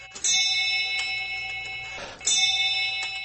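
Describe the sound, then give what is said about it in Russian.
Clocks ticking softly, with two bright, lingering chime strikes ringing out over the steady ticks. No one speaks. “Каждый тикает на свой лад.”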